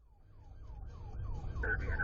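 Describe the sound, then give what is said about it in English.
Heard from inside a police car chasing a vehicle across Cleveland and its suburbs, a siren wails in rapid repeated sweeps over a loud, rumbling engine and road noise, growing louder as the car speeds along, with a higher tone cutting in near the end. “the sound of a chase from inside a police car.”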